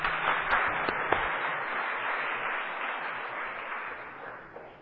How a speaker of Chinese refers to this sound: 所以咱真多谢咱的在泰国宣教在东港，因今日带予咱真好的做来讲道，真正是今日的讲道主题讲，服侍是疼的见证，搁一遍咱热烈掌声，来感谢。